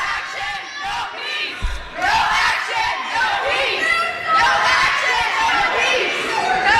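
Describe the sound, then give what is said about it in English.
A large crowd of student protesters shouts and screeches continuously, many high-pitched voices overlapping in a loud, chaotic roar with rising and falling yells and no clear words. “On top of all the screeching and the harpies and everything, you know what I hear there?”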